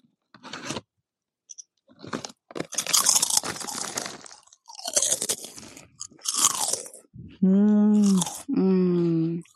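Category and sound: food or drink, crunchy snack being chewed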